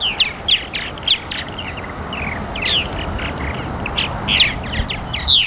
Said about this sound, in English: At the bottom of the hill, the peeps of purple martins flocking to a birdhouse near the Audubon Society's state-of-the-art nature center here are all that competes with nearby traffic, for now.